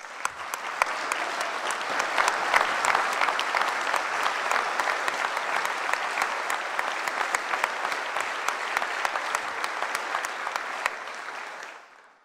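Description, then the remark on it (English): An audience at a state budget address applauds a scholarship recipient of the expanded MAP grant program. The sustained applause is a dense wash of clapping with sharp individual claps popping through, holding steady for about twelve seconds before quickly fading out. “Please give a round of applause to a great family man and a hard worker”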